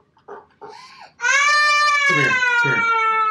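A young child whimpers in short broken bursts, then breaks into a loud, sustained high-pitched wail that holds steady and strained to the end.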